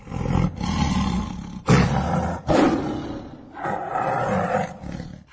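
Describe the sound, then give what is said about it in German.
A tiger roars loudly, a series of deep, rumbling bursts following one another with only brief pauses between them, with no voices present. “Aber der Tiger tauchte wieder auf.”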